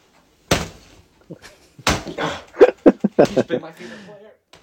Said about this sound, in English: He is punching his Everton Richarlison jersey. It's an older one.